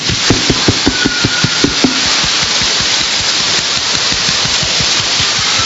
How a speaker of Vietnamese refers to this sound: Giờ chúng ta thay vì vỗ tay, chúng ta lấy quạt ta vỗ, nó kêu thử rồi, vỗ vậy.